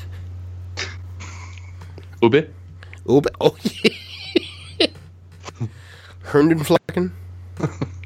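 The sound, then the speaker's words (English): A quick, sharp sneeze bursts out in the middle of casual conversation, with people talking before and after it over a steady low electrical hum. “Bless you.”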